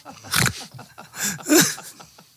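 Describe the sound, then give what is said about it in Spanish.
A technician yawns audibly: three breathy, voiced bursts with a wavering, groaning pitch, rising and falling over about two seconds, with no words spoken. “Sí, está ahí bostezando.”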